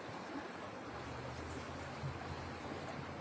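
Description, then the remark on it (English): Record floodwater, about 6 to 7 feet deep, rushes steadily beneath a house in Concrete, Washington, in the Pacific Northwest: a dense, continuous churning roar with no pauses, fairly loud, and no voices. “Got about 6 feet of water underneath my house.”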